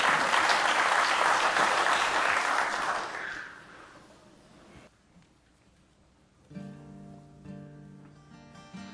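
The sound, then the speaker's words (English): An audience applauds steadily for about three seconds for a singer getting ready to sing, the clapping thinning out and fading into quiet before soft instrumental music with sustained tones begins. “a nice hand as he gets ready to sing.”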